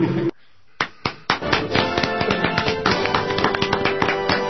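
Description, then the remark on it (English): A few isolated claps break a brief silence, then quickly swell into steady, dense applause for Jim Earl from a small group that continues to the end at a moderate level. “Wait a minute, I'm applauding Jim Earl.”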